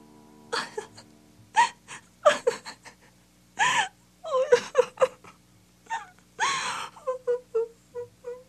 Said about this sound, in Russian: Когда день клонился к вечеру, вышла несчастная красавица в сад. Села на лавку и, конечно, заплакала горючими слезами.